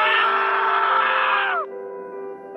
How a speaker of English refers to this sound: My brother screamed.